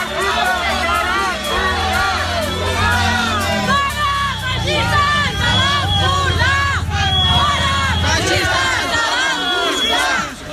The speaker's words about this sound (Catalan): Però la tensió arribava molt més abans, quan Carrizosa ha arribat al municipi de Torroella de Montgrí. Els grups independentistes han començat a cridar càntics com fora feixistes de l'Empordà.